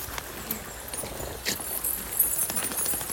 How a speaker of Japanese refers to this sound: 雨の音と水の音と鳥の音がすごい素敵だから録音撮ってます。